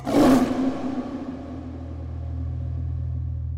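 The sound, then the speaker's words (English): A jaguar lets out a single loud, raspy roar, which quickly settles into a deep, steady rumbling growl that carries on for several seconds. “We must understand the symbolism of the jaguar.”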